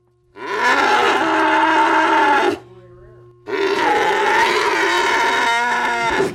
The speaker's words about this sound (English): It's like a Formula One pit stop, and nearly as loud. One of the cows suddenly bucks and bellows.